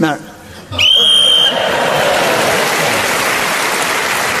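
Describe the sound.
A voice briefly speaks, then a referee's whistle gives one shrill, steady blast lasting under a second, followed by a sustained wash of crowd noise like applause and laughter.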